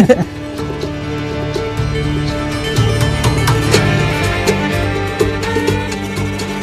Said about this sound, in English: Yeah, he said he doesn't have a clue why this fucking horse is running through town.